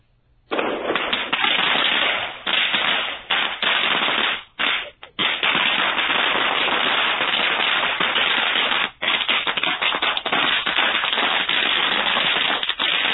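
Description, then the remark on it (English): A long string of firecrackers, lit and throwing sparks into the air, pops in rapid, crackling bursts, loud, running nearly continuously for over twelve seconds with a few brief gaps. “I think part of me is on fire, actually, because that was a string of firecrackers that that threw sparks in the air.”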